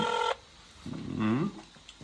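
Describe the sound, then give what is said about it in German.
A short, steady electronic ringing tone from an outgoing phone call to Spain sounds at the start and cuts off, followed by a brief murmured voice. “Das ist bei dir in Spanien ist ein bisschen anderer Klingelton.”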